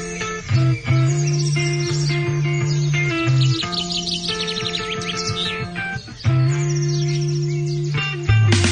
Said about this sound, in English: we hear birds at his house all the time. He's not you know, trying to annoy us. He's trying to share it with us.